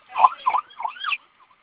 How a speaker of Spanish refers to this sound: Ya escuchamos la sirena, entonces apoya ahí para que se acerquen.